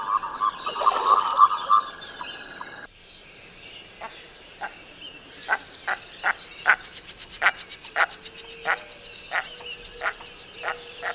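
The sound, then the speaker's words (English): A common merganser gives a steady series of short, hoarse croaking calls, repeated roughly twice a second, after a brief stretch of other bird noise at the start. “Anyways, let's move on to a common merganser.”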